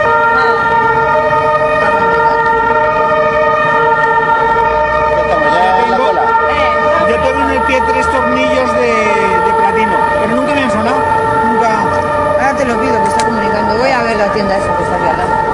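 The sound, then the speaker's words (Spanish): A European emergency-vehicle siren wails steadily for the whole stretch in a town square, loud and continuous with strong tonal bands, while people talk over street noise. “Oye, la sirena europea.”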